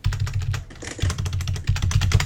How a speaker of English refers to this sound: You can tell, like, the keys are in stereo to my keyboard. I don't know if you can tell.